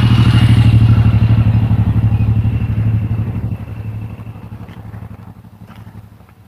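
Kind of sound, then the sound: vehicle, busy street traffic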